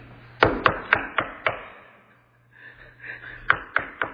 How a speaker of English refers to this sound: This is a sound effect, by the way. I've never done this before. It's really fun. Okay, so Peter's banging on the door of the prayer meeting.